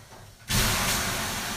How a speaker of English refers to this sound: If you aren't familiar with a sauna, that splashing noise is me throwing water on the heated rocks.